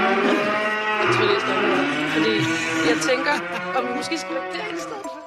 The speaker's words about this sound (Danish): i et kor af brølende køer på Kalø Økologiske Landbrugsskole